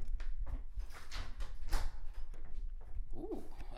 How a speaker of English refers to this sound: Close the damn door. Hang on one second. Let me just go ahead and close that door real quick, okay?